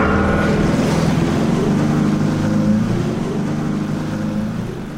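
A lobster boat engine, put in gear to tow a submerged van by a rope made fast to the stern, rumbles steadily, a low droning throb with the wash of water around it, holding strong before easing slightly toward the end.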